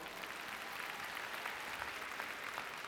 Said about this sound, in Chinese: 各位，我们是不是现在等于是在挖钻石矿，对不对？我们给自己一个掌声，好不好？